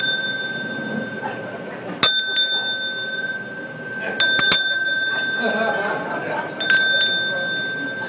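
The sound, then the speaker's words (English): A small bell rings three times at spaced intervals, each bright strike followed by a lingering shimmer, over a low murmur of background voices. “all I know is there's a lot of bells. You know, like this thing says this.”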